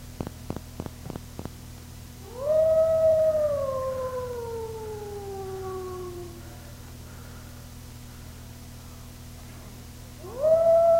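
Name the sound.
wolf howling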